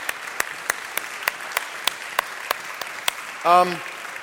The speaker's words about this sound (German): Ich bitte euch alle mal einen Applaus den Leuten zu geben, die jetzt gerade stehen, weil die sind sehr, sehr treue Diener der Gemeinde.